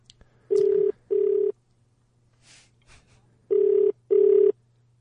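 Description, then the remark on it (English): A telephone ringback tone on an outgoing call: two double rings, each a pair of short steady buzzy tones, separated by a pause, with a low hum and faint rustles underneath. No one speaks. “Producer Cat, are we getting him there? Is it ringing?”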